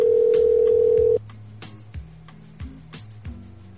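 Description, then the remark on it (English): An outgoing phone call rings unanswered: a loud, steady ringback tone lasts about a second, then cuts off, leaving quieter, shifting electronic tones and faint clicks on the line. “Answer the phone.”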